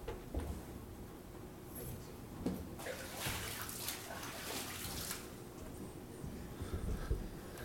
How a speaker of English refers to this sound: That's water.